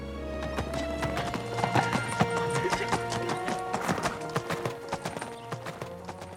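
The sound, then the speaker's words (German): A horse's hooves clip-clop in a steady rhythm over sustained musical tones, with a brief horse whinny mixed in, as Konrad rides off on the long journey to Princess Marlene; no one speaks. “Konrad schwingt sich auf sein Pferd und macht sich auf den weiten Weg zu Prinzessin Marlene.”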